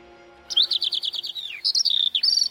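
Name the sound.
small songbirds twittering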